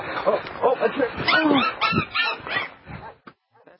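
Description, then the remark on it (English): A puppy yips and whimpers in rapid, high-pitched bursts as it is thrown off a cliff, with whiny rising cries and voices mingled in, before the sound cuts off and trails into near silence. “Here they are with the puppy, enjoying themselves and throwing it off the cliff.”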